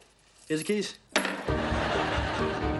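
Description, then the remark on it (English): A brief chuckle-like vocal sound gives way to a bright metallic jingling of a bar's keys being handed over. The jingling keeps rattling steadily for a couple of seconds. “Here's the keys.”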